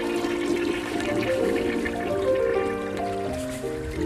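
A toilet flushes loudly, a steady rushing gurgle of water with swirling tones that holds for several seconds before easing slightly at the end. No one speaks.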